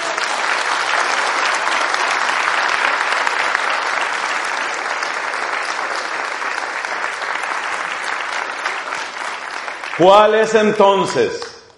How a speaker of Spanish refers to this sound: A ver, ¿quién le da un aplauso al Espíritu Santo?